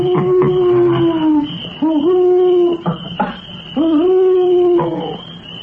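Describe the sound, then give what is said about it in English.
An owl hoots three times, each a long, wavering, mid-pitched call that swoops up and then trails off, loud and with no voices over it. “That was an owl.”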